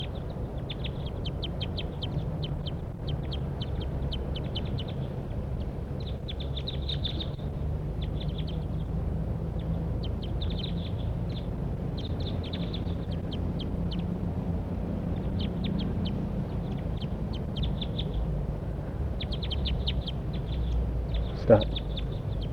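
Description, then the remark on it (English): Wild birds call in quick, high-pitched chirps and short trills, repeating in scattered bursts over a steady low rumble of background noise, while one bird makes an approach down to a net. “Those wild birds are calling now.”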